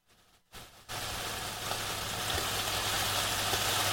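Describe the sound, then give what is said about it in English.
Fried chicken sizzles in hot oil, a dense, steady hiss flecked with tiny crackles that kicks in after a brief quieter start and swells slightly, sounding much like falling rain. “Fried chicken sleep sounds.”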